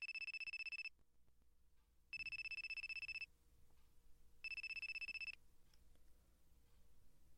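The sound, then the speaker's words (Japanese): A telephone rings in three bright, evenly spaced bursts, each about a second long with short pauses between, heard clearly over a quiet low background hum, as a phone call goes unanswered. “出ない。電話の音聞こえないのかな？”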